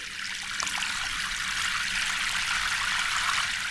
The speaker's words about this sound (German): Draußen regnet es im Ström.